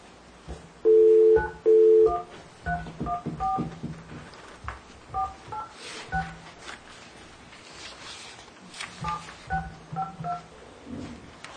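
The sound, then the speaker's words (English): Touch-tone keypad dialing of a cell phone number: two long, loud tones open the sequence, then a rapid run of short, softer beeps follows in irregular bursts over faint background noise, with no one speaking. “Well, I'm going to call her on her cell phone.”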